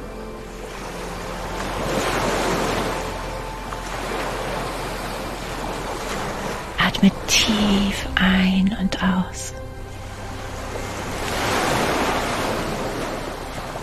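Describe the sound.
Pacific Ocean surf swells and recedes in slow, broad washes, rising loudest near the start and again near the end, while a soft, whispery voice speaks briefly in the middle.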